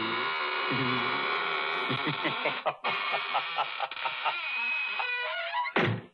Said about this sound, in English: Well, now I guess it's really time to close that there squeaking door.